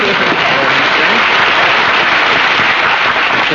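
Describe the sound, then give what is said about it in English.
A dense, steady wash of applause from a studio audience, many hands clapping together at a loud, even level for the whole stretch with no pauses, applauding for Mary Livingston. “Mary, we should have applause for Mary.”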